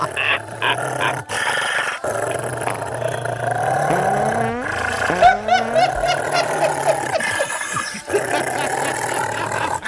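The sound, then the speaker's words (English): A dog barks loudly and continuously in a comedy bit, after a request to hear a dog barking. The barking is harsh and growly, with a couple of rising, whining yelps midway and a rumbling background throughout. “Stop the dog. Dog's too loud.”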